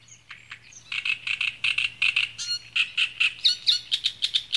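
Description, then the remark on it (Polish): A great reed warbler, a bird living in tall reed beds of common reed, sings a harsh, grating song of rapid, repeated chattering phrases, loud, with no talking over it. “I tak, w takich miejscach może mieszkać trzciniak. To już z kolei do ptaków przechodzimy. To taki skrzypek nadwodny.”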